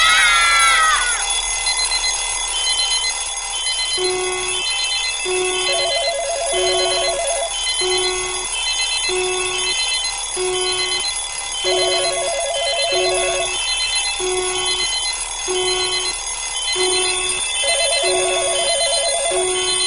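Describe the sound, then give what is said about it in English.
An alarm clock rings on and off in a steady repeating pattern of bright electronic beeps and trills, fairly loud, with no voices over it. “Paul begins with this kind of alarm clock metaphor, wake up, and to just get you in that mood, here is a little video”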